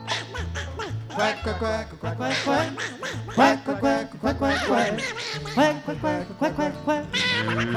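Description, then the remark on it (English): A person imitates a duck with a rapid, continuous run of loud, nasal quacks, the pitch sliding up and down, over a steady low background that sounds like music. “I said I'm a lonely duck.”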